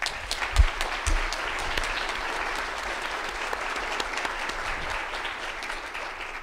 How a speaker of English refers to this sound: Very grateful to your wonderful deacon and your wonderful pastor. How about a nice round of applause for them?